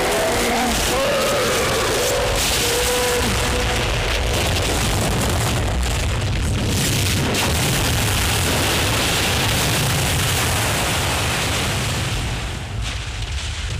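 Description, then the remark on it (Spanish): A great mass of ice, cracked by a spear driven into it, collapses, dragging Sitka and a bear down with it in a long, loud roar: deep rumbling and crashing that surges like churning water, sustained for many seconds before easing slightly at the very end. “La gran masa de hielo se desploma arrastrando a Sitka y al oso.”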